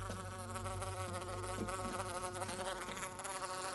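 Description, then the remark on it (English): A wasp buzzes steadily against the glass of an open kitchen window above a white Belfast sink, its droning hum wavering in pitch as it bumps and fidgets, with no voices present. “At the window, a tiny insect fidgets against the glass.”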